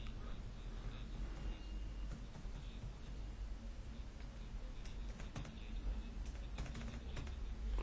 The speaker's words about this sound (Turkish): Bunu da on off, yani açıp kapatmak için Air dediğimiz olayını Ctrl Shift ile beraber noktaya basıyoruz İngilizce klavyede, yani Türkçe klavyede Ç harfine basıyoruz.